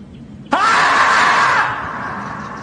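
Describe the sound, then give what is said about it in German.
A marmot's scream bursts out suddenly, one loud, harsh, sustained shriek lasting about a second before fading into a trailing echo, with nothing else around it. “lustig war doch auch das Murmeltier. Quarantäne, 7. Tag, ne? Was dann so schreit.”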